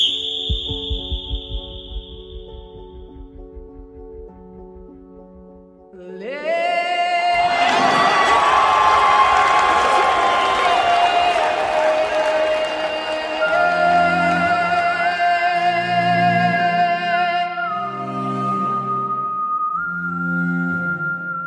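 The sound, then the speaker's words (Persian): After a quieter musical opening, a crowd suddenly erupts into loud, sustained cheering and shouting, with whistle-like tones and music carrying through the roar until the end. People celebrate in the courtyard of a residential complex at the end of a match, one waving an Iranian flag. “همه تو حیات مجتمع مسکونی خوشحالی میکنن.”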